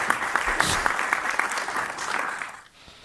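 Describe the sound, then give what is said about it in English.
A short burst of modest applause, many hands clapping in a dense, steady patter that thins out and fades near the end, with no voices over it. “There's a polite amount of applause for a few Chris.”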